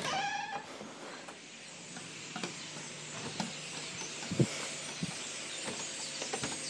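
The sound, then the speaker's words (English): Many birds in a backyard chirp and call excitedly at once, a dense, high-pitched chatter that runs throughout, with a few clearer whistled notes at the start and sharp clicks scattered through it. “the birds in our backyard are going crazy. I've never heard them this crazy, and I just want to record it for posterity.”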